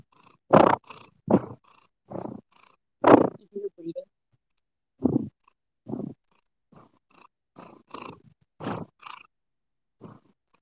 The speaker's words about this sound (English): There we go. Nice. Kitty purrs, kitty purrs. She's making noises.